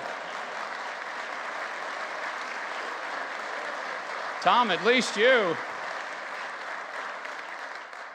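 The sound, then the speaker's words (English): A crowd applauds steadily, a dense, even patter of clapping that holds for the whole stretch, while a single voice calls out briefly over it midway. “No applause for that line?”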